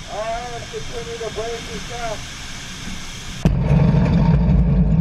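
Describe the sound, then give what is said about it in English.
After a few seconds of wavering, voice-like tones, two 10,000-pound TNT bombs explode underwater near ships. A sudden loud blast erupts into a sustained, deep roaring rumble with hissing water spray that continues to the end. “And so what they've got here is this is the actual audio of two 10,000-pound TNT bombs going off underwater.”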